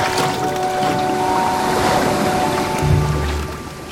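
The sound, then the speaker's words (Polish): Steady rushing noise of sea and wind around a huge ship in the middle of the Baltic Sea as a storm approaches, with a faint engine-like drone and creaking tones from the vessel, and a low rumble swelling near the end. No one speaks. “Przyjaciele zorientowali się, że znajdują się na środku Bałtyku. Zbliżał się sztorm.”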